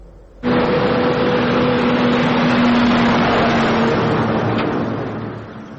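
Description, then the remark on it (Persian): Engines of dozens of cargo trucks crossing the Khyber Pass at the Torkham crossing, heading toward the Afghan border, rumble in a loud, steady drone with a low humming tone. The noise starts abruptly and holds without pause, with no voices heard. “ده ها ماشین بارکش از روز 21 مرد از گذرگاه خیبر گذشته به سمت مرز افغانستان حرکت کردند.”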